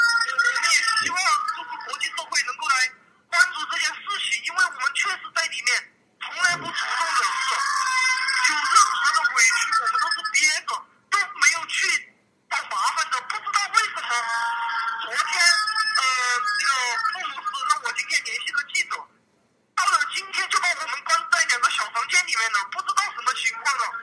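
A woman wails and sobs hoarsely over a thin, tinny telephone line, her cries rising and wavering in long, strained bursts broken by brief silences, loud and anguished throughout; heard on a phone call while she is held in a Dutch immigration detention center in the Netherlands.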